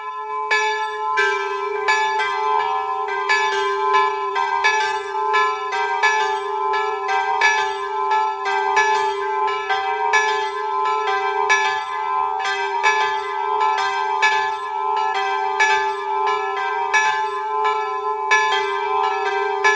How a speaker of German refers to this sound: Es ist 12 Uhr. Sie hören die Glocken der St. Petruskapelle in Kaunerberg-Brantach in Tirol.